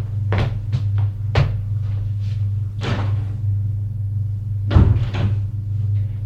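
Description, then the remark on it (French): Cupboard doors being opened one after another by three men checking the rooms, a series of wooden clunks and creaks with pauses between them, over a steady low hum, with a louder double knock near the end. “Ouvre les placards.”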